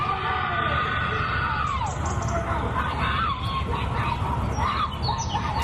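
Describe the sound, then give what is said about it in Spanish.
A woman screams in a string of high, wavering cries that rise and fall over several seconds just after a shooting in the Torrejón neighborhood, set against a steady, noisy rumble of background sound. “Pues estos son los gritos, aparentemente, de una mujer justo después del tiroteo que de nuevo tiene al barrio del Torrejón en Vilo.”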